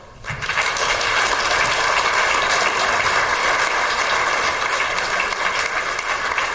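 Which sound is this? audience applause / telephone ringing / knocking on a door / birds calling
audience applause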